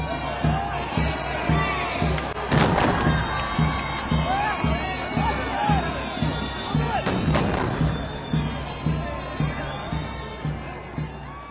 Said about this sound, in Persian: با بلند شدن علم موزیک احترام نواخته میشه و توپهایی بر اسم احترام شلیک میگردد.